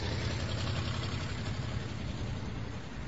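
A car engine idles steadily, a low, even rumble with a faint rhythmic throb that holds constant throughout, with no voices.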